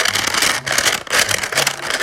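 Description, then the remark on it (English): A homemade bead-filled balloon fidget toy, made from a broken balloon, is squeezed, giving a dense, gritty crackling and rustling as the beads shift, in two or three pulses with a brief lull between them, and no talking. “So all you're going to need is a broken balloon, because I know the ones, like the fidget toys you make, like this one with beads, this is the one I made.”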